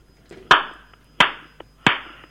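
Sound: hand clapping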